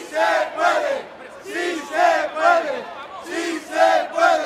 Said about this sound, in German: Si se puede, ja, wir können, rufen Anhänger von Podemos vor 3 Jahren vor dem Kongresszentrum von Sevilla, in dem die Partei ihren ersten Geburtstag feiert.